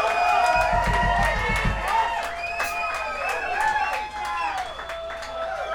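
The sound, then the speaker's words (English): An audience applauds a musical duo, clapping steadily and loudly, dense clapping mixed with high whoops and cheering voices, a low thumping pulse underneath in the first couple of seconds, the ovation holding throughout. “There's no I in duo, but I think I got the louder applause that time.”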